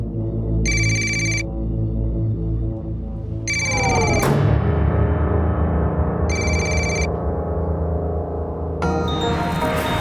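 A telephone rings three times at steady intervals as a call to Addie goes unanswered, each short electronic trill clear and fairly loud, over a dark, sustained musical drone. Nobody picks up, and no voices are heard.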